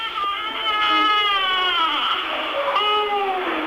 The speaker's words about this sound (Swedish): Munnen i hans skrynkliga och skrumpna lilla ansikte öppnas bara för ett övergivet skrik.